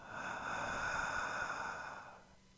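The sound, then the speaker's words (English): A long, steady deep breath drawn in through the mouth on a count of three during a centering breathing exercise, an airy hiss lasting about two seconds that swells and then fades, fairly quiet, with no talking. “On the count of three, deep breath, please.”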